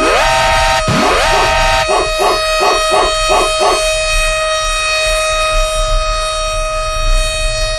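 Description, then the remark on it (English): A dog barks in a quick run of about six sharp barks over a loud wailing siren that rises at the start and keeps droning throughout. “Where's the dog”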